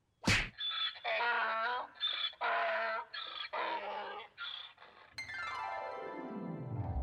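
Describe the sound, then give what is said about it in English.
A single sharp punch thwack lands at the start as a donkey is punched, followed by the donkey's loud, strained braying cries in several bursts, then a long descending cartoonish glide trailing off. “So, you infuriated the donkey by punching it.”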